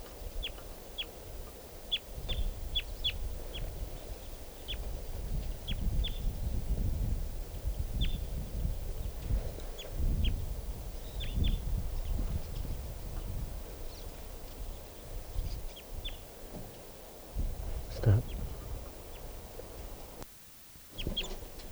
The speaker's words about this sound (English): Here's a crossbill. Three crossbills there.